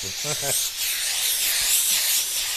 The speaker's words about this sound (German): Die ist fünfteilig und dann wird die Mütze da aufgezogen und von Hand gebügelt. Und das machen wir dann auch immer so mit einem Bügeltuch und richtig mit Dampf, da wird es dann richtig warm.